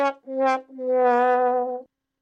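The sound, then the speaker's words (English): A sad trombone sound effect plays alone: two short brassy notes and then a longer, wavering final note, loud. “And then let's play a sad horn.”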